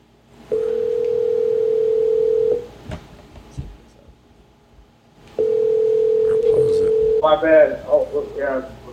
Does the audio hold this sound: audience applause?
no